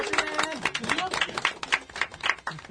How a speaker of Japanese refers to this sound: 祝5周年ということで2011年11月5日から始まりましたこの番組、なんと5周年を迎えております。拍手、 イエーイ。